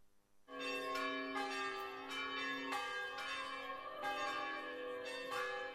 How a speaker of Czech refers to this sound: U znak vaskršnje radosti na svim pravoslavnim hramovima tačno u ponoć oglasila su se zvona.